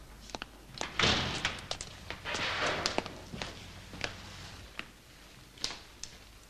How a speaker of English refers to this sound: Opening the front door, Sir Henry stops, seeing Barrymore and his wife by the fire in the entrance hall.